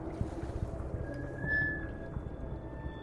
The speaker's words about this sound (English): In a fetal position, my ear is right against the surface. I hear a constant lapping. The sound rumbles through the drum boat. Water acts as a healing balm for me.